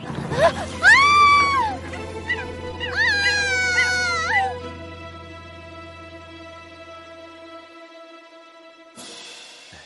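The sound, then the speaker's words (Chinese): Monkeys screech frantically in two shrill, wavering bursts, loud, over a steady droning background hum that fades out before a short rustle of noise at the end. “算你命大，你被一棵大树接住了，要不是这些猴子死命的叫唤，我也不会来这里救你。”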